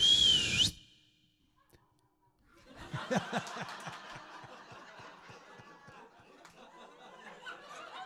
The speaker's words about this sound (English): And then he whistled.